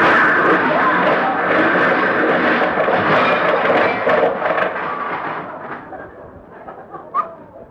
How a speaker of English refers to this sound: Oh, my goodness, we hit Mr. Freeman's car.